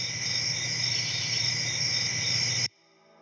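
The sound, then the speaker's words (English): A steady, dense chorus of crickets chirping, high and shimmering with a constant pulsing trill, playing loudly on its own before cutting off abruptly into near silence. “Yeah, crickets.”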